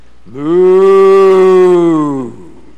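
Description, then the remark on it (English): A person imitates a cow's moo with one long, loud, sustained lowing call that rises in and holds steady for about two seconds before trailing off, heard alone. “That's not a very good impression, I don't suppose, but you get the idea. They just kept on just kept on mooing wherever they went.”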